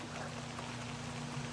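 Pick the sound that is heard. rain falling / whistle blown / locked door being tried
rain falling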